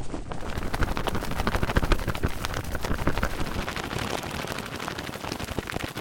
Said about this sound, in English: Her wings, by the way, are it's a shirt. It's a cotton polyester blend shirt being flapped around like crazy and sped up a bit.